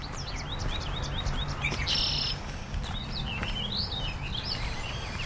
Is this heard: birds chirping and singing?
yes